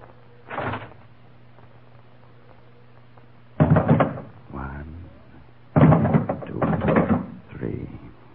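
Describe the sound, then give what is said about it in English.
A door creaks and bangs open over a low steady hum, followed by a cluster of heavy clattering thuds as a gun is thrown in onto a hard floor. “We'll open the door. Throw in our gun.”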